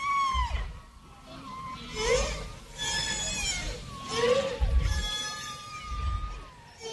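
Whale song, included on a record meant to be received by life on another planet: a run of long, wavering cries and moans that swoop up and down in pitch, rich with overtones, over a soft low rumble, with no one talking.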